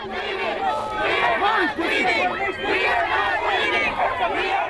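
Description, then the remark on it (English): A crowd of protesters at a camp resisting the Dakota Access Pipeline in North Dakota yells at men in hard hats while bulldozers keep going, shouting over one another in a dense, continuous wave of overlapping voices, with sharp rising cries breaking out of the steady roar. “The bulldozers are still going, and they're yelling at the men in hard hats.”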